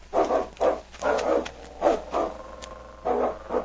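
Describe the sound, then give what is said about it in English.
A dog barks repeatedly in short, loud bursts with uneven gaps between them, about half a dozen barks, and nobody speaks. “They had covered over a mile when they suddenly heard King up ahead. King's found something.”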